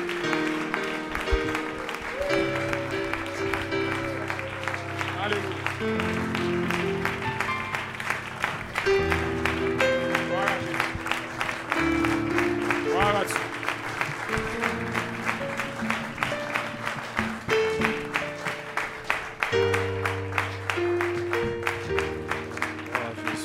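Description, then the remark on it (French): An audience applauds steadily for over twenty seconds in praise of Jesus, dense clapping layered over loud, sustained music with held chords and a shifting bass line; no one speaks. “On applaudit le roi de gloire, le Seigneur des seigneurs.”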